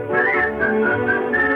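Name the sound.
whistling a merry tune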